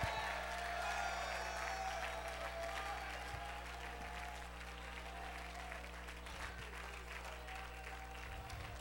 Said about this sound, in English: Clap your hands.